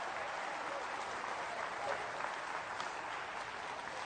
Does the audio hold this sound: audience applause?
yes